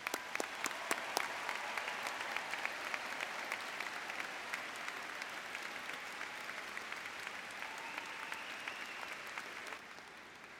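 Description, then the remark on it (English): At a graduation ceremony, a large crowd of graduates applauds steadily for their parents, families and friends, a dense wash of clapping with a few sharp louder claps near the start, sustained for about ten seconds before easing slightly at the end. “Graduates, would you please join me in a rousing round of applause for all those who bore you up this day?”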